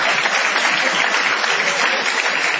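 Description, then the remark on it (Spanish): Steady, dense audience applause, a thick wash of many hands clapping at once without pause or a clear beat, fairly loud and unbroken for the whole stretch, with no voices standing out. “Ya la gente le aplaude para querer.”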